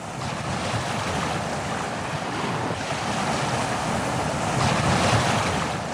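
Waves wash steadily onto the Caspian Sea shore near Makhachkala, the capital of Dagestan, Russia, a broad continuous roar of surf with gusting wind buffeting the microphone. The water swells slightly louder near the end, and no one speaks.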